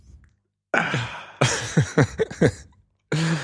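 A close, fairly loud coughing fit: one harsh cough, then a rapid string of five or six hacking coughs, and a final cough after a short pause. No one speaks.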